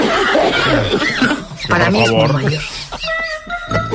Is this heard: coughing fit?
yes